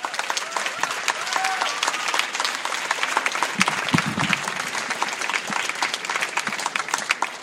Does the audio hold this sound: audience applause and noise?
yes